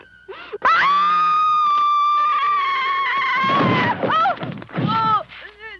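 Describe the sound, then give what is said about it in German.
A woman, a horror-film actress, lets out a long, piercing, terrified scream, held at high pitch for about three seconds, then breaks into shorter gasping cries and sobbing wails, loud. “ich habe sie in Los Angeles gesprochen im vergangenen Jahr und wollte von ihr wissen, wie diese Schreie eigentlich entstanden sind. Also dieser Schrei hier.”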